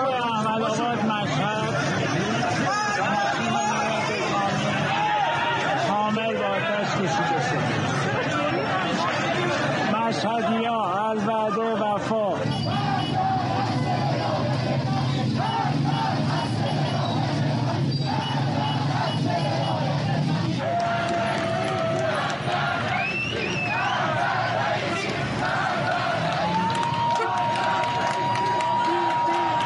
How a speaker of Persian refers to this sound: در مشهد هم معترضان به خیابان‌ها آمدند و تصاویر ابراهیم رئیسی، رئیس جمهوری ایران را به آتش کشیدند. صدای این معترضان را نیز بشنویم.